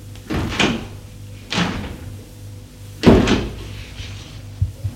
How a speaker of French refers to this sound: Des portes qui s'ouvrent.